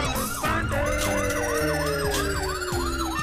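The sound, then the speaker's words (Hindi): A loud wailing police siren on a police car chasing a tempo rises and falls in rapid repeated sweeps, continuous, layered with a second siren tone and the rumble of a vehicle engine, no voices. “बड़े master, police की गाड़ी हमेशा फुल टंकी रहती है।”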